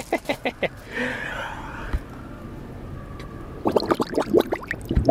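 A man dunks his head into his garden pond, which holds fish: a flurry of splashy bursts, a muffled wavering underwater hum, then another run of gurgling, bubbling pulses near the end.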